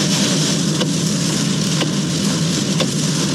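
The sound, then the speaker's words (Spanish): A truck crosses the Manuel Rodríguez bridge in heavy rain, its low engine rumble running steadily under a broad wash of rain and wet-road hiss, with three faint, evenly spaced ticks. No voices are heard. “Pasando por el puente Manuel Rodríguez, ahí va el camión.”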